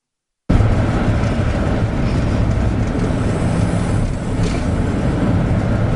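A steady, loud rumble of a car rolling down the streets of Los Angeles, heavy low road and engine noise with a constant hiss, starting abruptly and continuing without pause. No voices.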